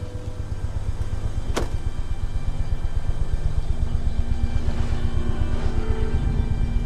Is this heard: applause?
no